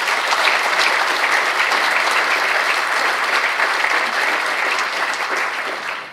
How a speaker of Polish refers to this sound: Oklaski dla nich też.